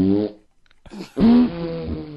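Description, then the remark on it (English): A short burst of a fart sound effect played from a website, followed after a brief pause by a longer, louder, buzzing one that wavers in pitch. The sounds are clear, with no talking. “You want fart every noises? Scroll, it'll please stop.”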